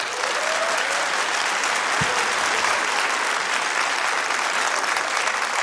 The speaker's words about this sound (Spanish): ¿Por qué no les damos un aplauso para que se mueran de envidia?